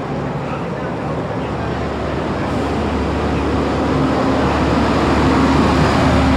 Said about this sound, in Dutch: De hardste vrachtwagen van Groningen komt eraan.